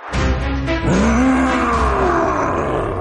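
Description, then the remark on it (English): A loud monster roar rises quickly and holds for about three seconds, a deep growling bellow with a falling pitch and a rough, snarling texture, heard alone with no talking. “Ooh, hello, scary monster from my nightmares.”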